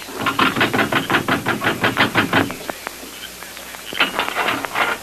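Rapid, loud knocking on a jail door at the top of some steps: a fast run of about a dozen hard raps, a few scattered thuds, then another burst of quick knocks. No one speaks.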